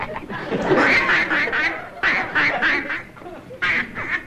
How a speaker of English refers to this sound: that duck of yours is making an awful lot of noise. That's not George. That's some other duck.